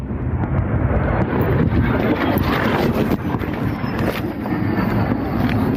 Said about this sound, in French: On y voit des raies de lumière dans le ciel pourtant noir de Kiev, accompagnés par le bruit sourd des attaques aériennes.